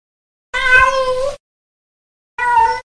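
A cat meows twice, fairly loud: a long drawn-out meow, a pause of about a second, then a shorter one. No other sounds around it.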